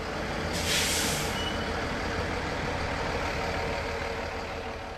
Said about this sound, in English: On a weekday morning, the terminal near downtown Traverse City is a bustling place as several buses arrive at once,